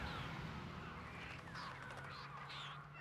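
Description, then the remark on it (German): Several rooks caw in a busy colony in Soest, harsh calls overlapping and repeating in quick bursts over a steady low rumble of background noise, moderately loud. “Möglicherweise gelingt es ja noch, den Soester Saatkrähen die Fledermäuse zu überflügeln.”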